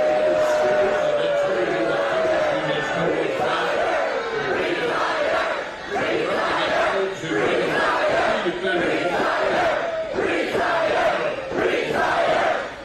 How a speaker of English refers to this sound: They're chanting retire, and he's just talking through it. Wow.